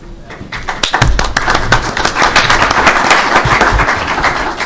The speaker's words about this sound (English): God, I love moderating. It's not often people clap for me.